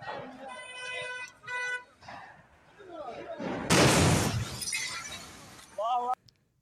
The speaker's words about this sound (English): Not quite as bad as the last explosion, but it's like, yeah, goddamn, like, stop blowing shit up in Lebanon. Like, it was a diesel tank that caught fire that got to, like, a arsenal of weapons or something.